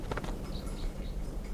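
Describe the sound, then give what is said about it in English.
A few faint, high calls from a wild bird down the hill, rising briefly over a steady low background hiss and rumble of open air; no one speaks. “There's a wild bird down the hill.”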